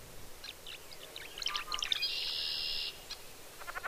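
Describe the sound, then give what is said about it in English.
Tree swallow calls: a run of bright, liquid chirps and twitters that builds into a brief sustained gurgling trill, then ends with quick scattered notes, unaccompanied by voices. “Tree swallows are not as well known here.”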